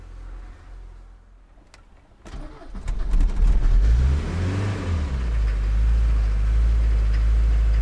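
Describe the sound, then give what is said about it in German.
A camper van bus engine cranks with a few sharp clicks, catches and starts, then revs up into a loud, steady low roar that rises in pitch before settling into a heavy idle; the faster it runs, the louder it gets. “Das wäre der Sound. Je schneller, desto lauter.”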